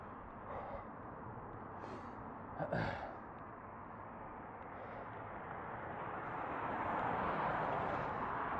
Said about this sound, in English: Ah, some wind. Do you like wind? Remember, it's not noise, it's ambience.